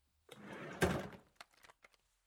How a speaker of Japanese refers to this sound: 何あさってんの？そこの引き出しは触らないでって言ってるでしょ？